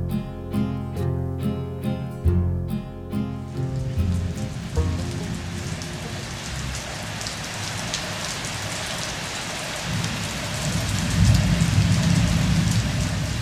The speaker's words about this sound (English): It's October, and the first rains of the wet season have arrived on our Indonesian shores. These are not yet the persistent heavy rain which we can expect in December and January